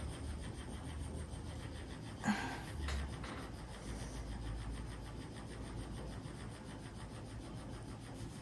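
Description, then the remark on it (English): A vibrator buzzes on its jackhammer-like setting in a fast, steady pulse, hammering on without pause, with a brief bump of handling noise partway through. “Okay, the next setting is like the stereotypical like jackhammer setting.”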